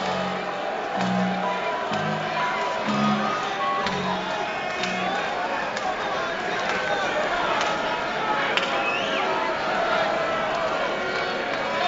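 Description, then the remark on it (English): A large baseball stadium crowd roars steadily during a postseason game as Wilson Contreras visits the mound, with booing and hissing mixed into a dense wall of noise; a few low, repeated drawn-out tones rise through the din early on. “The roar of the crowd, the boos and the hisses can only mean one thing.”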